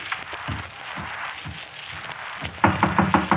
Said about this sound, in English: Didn't you knock at this door? Are you crazy? Well, I thought I heard somebody.